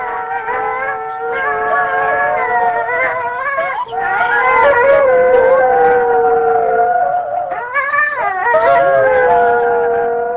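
Several wolves howl together in a loud, sustained chorus, their long wavering tones overlapping and sliding in pitch, with no talking throughout. The wolves are permanent inhabitants of the Beskydy mountains since 1994, favouring the strip along the border with Slovakia.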